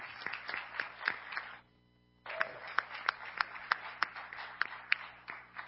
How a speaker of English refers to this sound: Hey, let's give a round of applause to this kind gentleman.